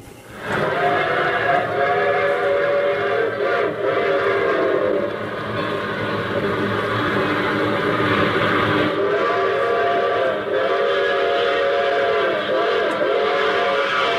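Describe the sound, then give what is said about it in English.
A train sound effect: a loud, sustained train whistle blares over the rumble of a moving train, its steady harmonic tones wavering and bending for about fourteen seconds without pause. “I start this thing off with the train.”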